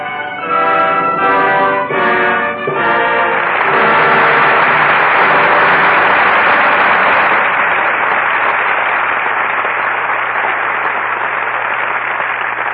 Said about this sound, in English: Your applause rings down the curtain on Lydia, and some acting we won't soon forget.